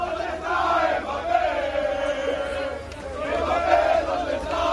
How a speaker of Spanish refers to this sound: Seguidores del Barça gritan: ¿dónde está Kylian Mbappé?